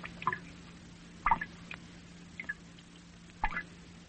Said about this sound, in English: First of all, we want you to hear what this instrument can do. Here is some water dropping into a small tank as its sound is picked up by an ordinary studio microphone.